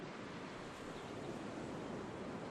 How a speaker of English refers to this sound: There are little ripples of phosphorescence on the sand where the water softly breaks and withdraws.